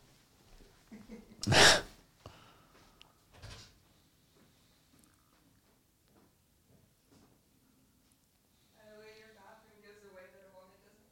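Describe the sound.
A loud, breathy burst of nose blowing into a tissue, followed a moment later by a shorter, softer second blow, with faint voices murmuring afterward.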